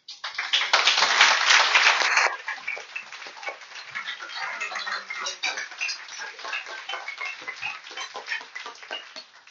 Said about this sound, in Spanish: Bueno, muchísimas gracias a los autores, muchas gracias a ustedes por venir, démosle un aplauso porque el trabajo que han hecho lo merece verdaderamente.